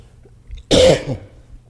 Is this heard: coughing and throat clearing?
yes